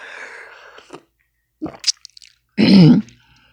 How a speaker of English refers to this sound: I'm going to take a drink of water a moment. My voice is cracky.